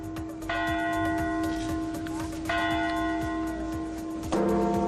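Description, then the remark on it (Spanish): A large clock bell chimes three times for children's New Year's Eve chimes in the Plaza del Ayuntamiento in Valencia, Spain, about two seconds apart, each strike ringing out and sustaining over a steady background hum and faint crowd noise. “Han sido los más pequeños quienes han disfrutado de las campanadas infantiles en la plaza del Ayuntamiento de Valencia, con multitud de actividades y talleres.”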